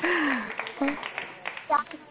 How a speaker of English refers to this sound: We're going to give you some claps